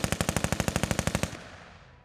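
A rapid burst of machine gun fire, about a dozen sharp evenly spaced shots over a second and a quarter, then a fading echoing tail, as German soldiers shoot a priest at the edge of a bomb crater on the way to Pilcante. No voices.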